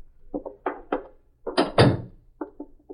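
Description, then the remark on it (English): A quick series of hollow thunks and clunks, with two heavier knocks in the middle, as a front door is worked open, ending in lighter taps. No one speaks. “Get the door.”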